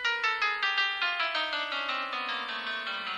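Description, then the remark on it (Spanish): A descending chromatic scale played on a phone: about sixteen bright electronic tones stepping steadily down in pitch at an even, quick pace, clear, with no voices. “Y después descienden.”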